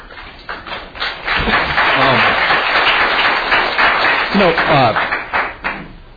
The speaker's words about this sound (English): I say this as someone who's pretty sympathetic to the issues of the neighborhood here, but I would really prefer if people didn't clap, because there are some people in the audience that come with a different point of view